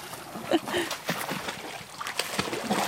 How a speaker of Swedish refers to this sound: Oj, det är som att hon blir arg på vattnet. Ja. Hon slår i. Hon har... det där är en egenhet. Ja, vi har inte sett det hos någon annan hund. Hon smäller på ytan med tassen. Och så ska hon som försöka fånga den vattenpelaren som kommer upp.